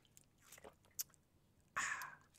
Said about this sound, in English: Like right now, open up your water bottle and take a sip.